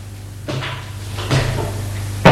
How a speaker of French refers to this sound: Une nuit, il dort dans son lit et est réveillé par du bruit. Il a peur. Il entend la porte s'ouvrir.